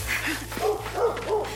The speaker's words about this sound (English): He has a dog? Appears so.